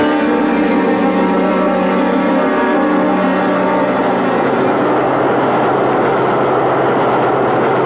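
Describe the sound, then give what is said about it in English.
A subway train rumbles steadily and loudly, a continuous heavy mechanical roar with layered whining tones that shifts slightly midway as the train keeps running; no voices are heard. “Come on over to the subway.”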